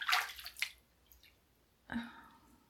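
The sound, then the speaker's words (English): Water drips and splashes lightly in a bath as it is scooped up and dripped down a chest, with a few soft bursts of trickling at the start and another small splash near the end, then quiet between. “Just dripping water.”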